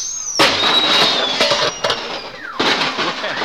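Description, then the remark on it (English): Comical horn hoots sound loudly, with high, whistly tones that slide downward, mixed with crackling, bursting noise that starts abruptly, drops briefly and surges again near the end. “And next, the happy hoot of a hilarious horn.”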